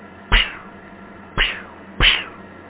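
Three short, sharp cat hisses or spits burst out, the first alone, then two more in quicker succession, each fading fast with nobody speaking.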